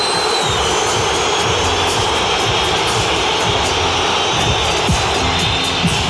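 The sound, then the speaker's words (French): A stadium crowd at the Vélodrome roars in a loud, unbroken wash of noise, with shrill whistles streaking through it as the Paris players come out onto the pitch, and no one speaking. “Écoutez les Parisiens qui entrent sur la pelouse, c'est maintenant.”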